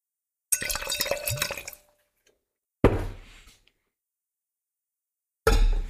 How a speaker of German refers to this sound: Ist das nah genug am Mikro? Nee, richtig das Glas an, vorne. Bisschen skurrile Situation. Ja. Ist aber Hörerinnenwunsch und Hörerwunsch, die möchten das hören, dass wir wirklich auch was in die Gläser bekommen.